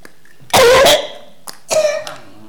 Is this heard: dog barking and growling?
no